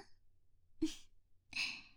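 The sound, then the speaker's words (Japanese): Two soft, airy puffs of breath blown out gently to remove fine dust during ear cleaning, the second longer and breathier than the first, with no talking. “私の吐息で細かいホコリを取り除いているのよ。”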